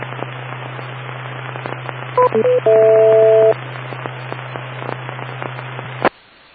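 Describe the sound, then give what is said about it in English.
Electronic radio beeps on the TechNet radio net: a few quick two-tone chirps followed by a longer steady dual-tone beep, sounding over constant hiss and a low hum on a noisy radio channel that cuts off abruptly. “Wait for the beeps.”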